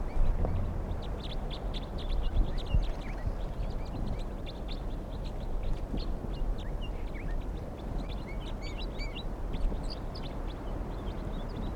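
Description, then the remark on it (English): A flock of about 20 wild crossbills calling, some being caught in a net: many short, high chirping notes overlap in a busy, continuous chatter over a steady low rumble, with no voices. “whole flock of about, let's see, 2, 4, 6, 8, 10, about 20 crossbills are here, and some are getting caught now.”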